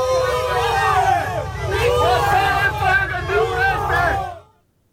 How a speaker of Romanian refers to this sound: Zeci de protestatari îl așteptau la poarta penitenciarului pe Dragnea, unde l-au huiduit.